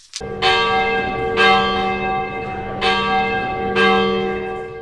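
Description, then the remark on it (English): A handbell choir plays America the Beautiful as a slow tune, bright bell chords struck about once a second, each ringing out and overlapping the next with a full, shimmering sustain. No voices. “Our Bell Choir plays America the Beautiful.”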